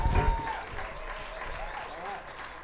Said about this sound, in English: Okay, thank you so much for being here. Can you give yourselves a round of applause for supporting Strange Music in Eugene, Oregon? Give yourselves a round of applause.